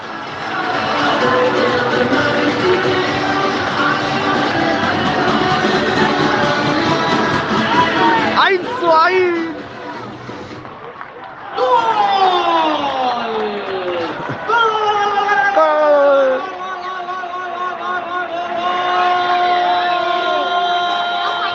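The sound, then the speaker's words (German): A stadium crowd in Alcorcón erupts in a goal celebration after Juan Hernández scores for Alcorcón on a rebound shot: a loud, dense roar of cheering for several seconds, then long wavering, sliding tones and chants rise and fall over the continuing noise. “So hört sich ein Tor in Alcorcón an.”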